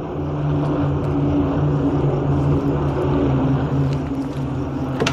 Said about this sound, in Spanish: Mira hacia arriba al escuchar el sonido de aviones.